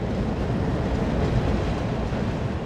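A steady low rumble of a train rolling past a few hundred feet from a quiet parking lot just south of the University of Arkansas on a Tuesday night, a continuous heavy drone with no pauses and no voices.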